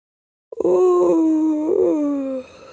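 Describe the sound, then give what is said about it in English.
A single long, drawn-out stretching yawn, starting with a sharp intake and sliding downward in pitch into a groaning, moan-like exhale that fades after about two seconds. “And then maybe because yawns are strange, infectious things, Miggy had a big yawn too and stretched her arms out above her.”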